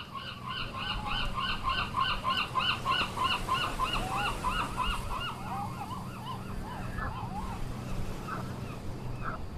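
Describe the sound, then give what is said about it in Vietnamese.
A large flock of seagulls from a lighthouse screeches and cries continuously by a harbour on the North Sea, many overlapping calls layered over a low, steady rumble of wind or surf, with no one speaking. “Có đàn cá chích bên cảng kia, hải âu trinh sát thông báo, và cả đàn chim từ ngọn hải đăng cát đỏ đón nhận tin vui với những tiếng rít sung sướng vang dài.”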